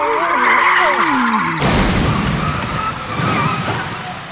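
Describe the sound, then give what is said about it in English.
Loud tires squeal in wavering, screeching tones for a second or two as cars lose control arriving at a traffic jam, then a sudden crash as they hit the stopped cars, followed by noisy clattering and scraping debris as the collision settles. “Some cars didn't stop in time, and they crashed into the car's stop in the traffic jam.”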